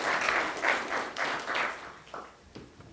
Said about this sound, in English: Let's give my helpers a little round of applause for being bold enough to come up.